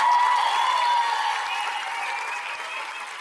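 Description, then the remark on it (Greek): Sustained applause from an audience for the event's organizer, a dense wash of many hands clapping that holds steady and then slowly tapers off, with no voices standing out above it. “Και ένα χειροκρότημα στις Ανταζίμια μου, το διοργάνωσε όλο αυτό.”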